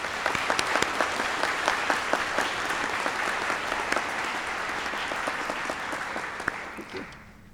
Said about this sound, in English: Let's give a round of applause in thanks to these people.